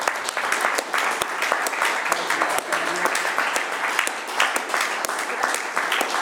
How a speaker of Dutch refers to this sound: En ik zou toch vragen aan iedereen, geef hem nog een daverend applaus.